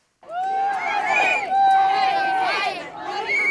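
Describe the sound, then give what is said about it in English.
A joyous crowd of Equal Rights Amendment supporters cheers and chatters as lawmakers walk into the State House in Richmond, Virginia, with high-pitched whoops and excited voices overlapping in a steady, loud babble that swells and dips over a few seconds. “As they walked into the State House, lawmakers were greeted by a joyous crowd of Equal Rights Amendment supporters.”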